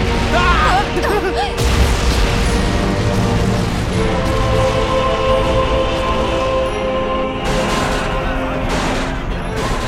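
A building, Laboratory No. 5 next door, being demolished by explosion: loud, sustained rumbling and crashing fills the whole stretch, with bursts of debris-like clatter and muffled voices faintly underneath at the start.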